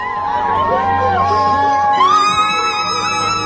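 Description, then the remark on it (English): A crowd of schoolchildren and teachers at a school cheer together after news that a climber reached a mountain summit. Overlapping shouts and high-pitched whoops swell into a loud, steady roar that lasts the whole moment. “Fellow teachers smile and cheer.”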